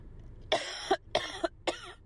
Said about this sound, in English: I'm going to cough again. Excuse me.